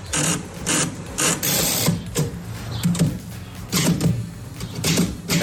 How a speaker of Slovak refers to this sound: Písací stroj, na ktorom píšem ja.